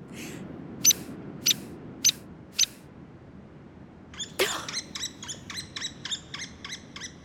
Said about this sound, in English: that is none other than the headbanger of the natural world, the woodpecker. A hairy woodpecker, to be exact.